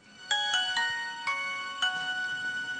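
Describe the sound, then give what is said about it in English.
A Nokia mobile phone ringtone plays alone, a bright electronic melody of five quick notes, the last few ringing out longer, moderately loud with no talking. “Nokia.”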